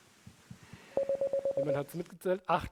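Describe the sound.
Eight short, evenly spaced beeps at a steady mid pitch sound out the Morse code correction signal, followed right away by someone starting to talk.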